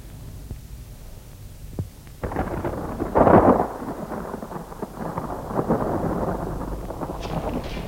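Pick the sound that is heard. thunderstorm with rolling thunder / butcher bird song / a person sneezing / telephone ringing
thunderstorm with rolling thunder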